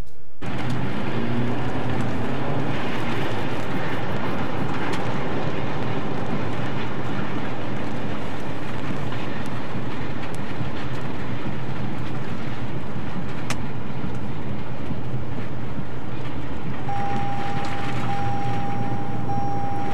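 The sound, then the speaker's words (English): Violent tornado winds roar and buffet around a moving truck, a loud, unbroken rush of noise over low rumbling, with a thin steady whistle-like tone emerging near the end. No one speaks. “whoever's driving this truck for our Light in the Mood section, if he is not a believer in Jesus before, I guarantee he is now”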